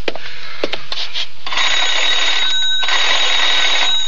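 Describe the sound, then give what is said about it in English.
A few light clicks and taps, then a loud, continuous metallic telephone bell rings, briefly faltering once before ringing on steadily to the end. No voices are heard. “May I use your phone?”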